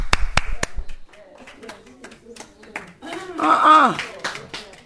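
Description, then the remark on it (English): A few sharp, loud hand claps ring out in quick succession at the start as people clap their hands in praise to the Lord, then a raised voice speaks over fainter, scattered clapping. “I say clap your hands.”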